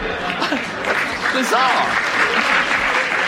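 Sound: studio audience applauding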